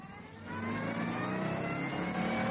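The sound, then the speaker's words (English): A fast sports car, parked outside a pub on a deserted village street with the keys in the ignition, starts up. Its engine kicks from a low rumble into a loud rev, its pitch climbing and holding as it accelerates, with no voices. “We got about 20 yards down the deserted village street when we saw the car outside the pub. A fast sports car. Keys in the ignition.”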